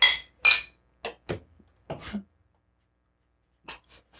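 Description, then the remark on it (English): Drinks, including an aluminum can, knock together in a toast: two bright, sharp clinks, then a scatter of softer taps and knocks trailing off into quiet. “I'll take a little sip. Aluminum can, you guys. So. Cheers.”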